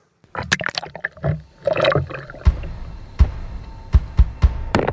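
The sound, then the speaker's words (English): A heavy paddle with a 4-pound brick taped to it is lowered into water to test whether it sinks or floats, with splashing and gurgling followed by several dull, knocking thumps and sloshes at irregular intervals. No one speaks. “I've taped a 4-pound brick to the paddle, and we're going to see whether or not it sinks or if it floats.”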